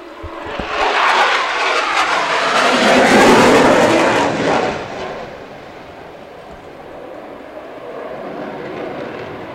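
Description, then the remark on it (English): A loud airplane roars past at an air show, swelling to a peak over a few seconds and then fading into a lingering engine drone; no one speaks over it. “and we'll pause for the airplane.”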